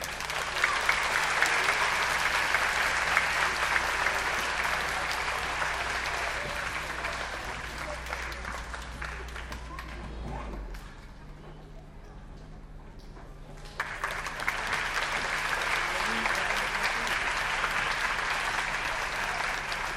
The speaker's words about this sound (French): Alors, je vous demande d'applaudir les musiciens du Nil.